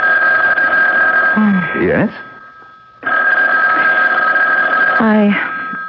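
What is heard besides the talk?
telephone bell ringing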